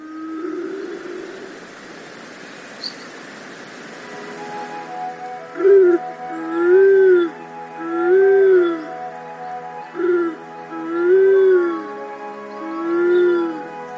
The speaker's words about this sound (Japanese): 朝の小鳥、今朝は鹿児島県奄美大島からカラスバトの声をお届けしました。